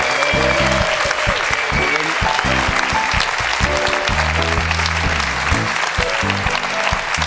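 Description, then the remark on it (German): A large crowd breaks into loud, thunderous applause for Stefan Effenberg that stays dense and steady for several seconds, with faint low tones rumbling underneath the clapping. “Und jetzt fehlt nur noch der donnernde Applaus, den ich ja nie einfordern muss, für unseren Stefan Effenberg.”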